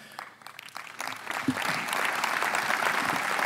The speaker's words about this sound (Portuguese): Aplauso para José Manuel Rodrigues, que é presidente do Congresso.